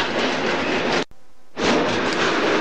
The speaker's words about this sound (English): The train is still pushing itself along down the bank at 20 mile an hour.